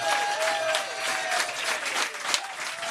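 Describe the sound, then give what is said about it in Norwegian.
A crowd applauds the management of Norwegian football club Viking, with dense, steady clapping that holds at an even level throughout, with a faint whistle-like tone threading through the noise. “Det er jo ingen klubber i Norge som har fått mer ut av de midlene som Nevland og gjengen har gjort de siste 5 årene, og det kan vi fader klappe for, folkens.”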